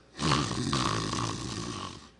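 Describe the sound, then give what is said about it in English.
A person loudly imitates the snoring of Peter asleep under a tree in the Garden of Gethsemane, using their voice: one long, rasping, rumbling breath lasting about two seconds, dry, with no other talk. “He's snoring. He's sawing logs.”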